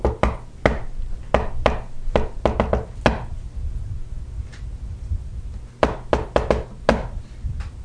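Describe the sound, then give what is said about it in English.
Sharp knocking on a wooden door in quick irregular bursts, about a dozen raps, then a pause of a few seconds before another rapid flurry, over a low steady hum. “I don't know how he knew it was going to be there, but he went to that house, and he starts knocking on the door.”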